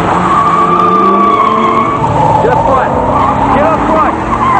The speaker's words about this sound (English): DeVoe drives away, scraping past cars in the street.